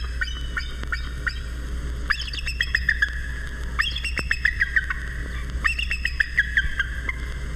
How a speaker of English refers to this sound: And the sharp, proud cry of the emblem of our country, the North American bald eagle.